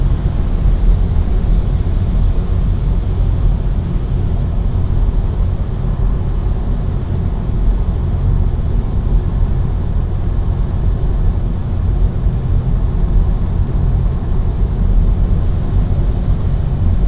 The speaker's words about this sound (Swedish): Som har att göra med, ja, det kanske har med vädret och det regnar och det är mulet